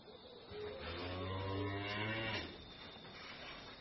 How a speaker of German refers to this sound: Erst als er in der Nacht plötzlich die Kühe muhen hörte, wachte er auf.